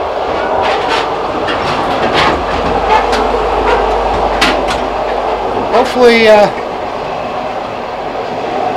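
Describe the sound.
Steady rumble inside a moving train, with wheels clattering over rail joints in a loose rhythm, plus a brief rising squeal midway; faint voices murmur in the background.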